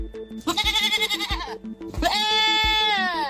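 Two loud goat bleats on an Italian island where goats outnumber humans, the first quavering and shaky, the second longer and steadier, heard over a steady rhythmic musical beat.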